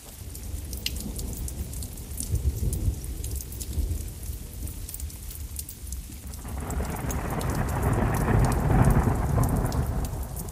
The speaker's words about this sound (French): Je crois que la pluie, les orages, c'est un peu tous les jours un orage quand on est au Vietnam, j'ai entendu dire.